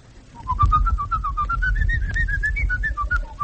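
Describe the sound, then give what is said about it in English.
A man whistles the Hungarian Rhapsody, a lively melody with a quick run of connected notes rising and falling over a low background rumble, with no talking. “That's the Hungarian Rhapsody.”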